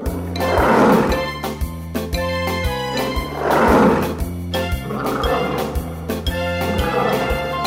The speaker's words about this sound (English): I'm a lion, and I roar.